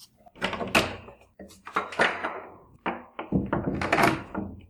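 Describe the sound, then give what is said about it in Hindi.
A house door being unlocked and opened, with a series of clunks, rattles and knocks spread over a few seconds and no voices. “जल्दी दरवाजा खोल, मुझे जोरों की प्यास लगी हुई है। हाँ हाँ खोलती हूँ।”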